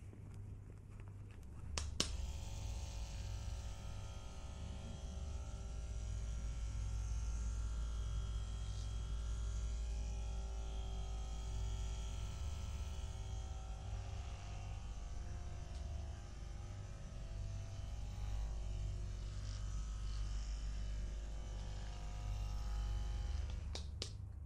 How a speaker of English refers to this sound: That's an electric massage device. It has these rotating nodes. They're quite soft and very pleasant on your scalp. Let me demonstrate it.